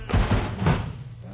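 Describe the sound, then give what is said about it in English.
An oven door bangs shut with a few heavy thuds in quick succession, loud and abrupt, amid a brief scuffle of commotion, as something heavy is rushed into the oven. “All right, we'll rush it in and close the oven door fast so it don't jump out again.”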